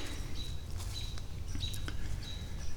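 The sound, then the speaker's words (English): An agitated bird upstream gives alarm calls, a string of sharp, high, thin notes repeating about every half second, over a steady low outdoor rumble. “But now there's a bird freaking out upstream.”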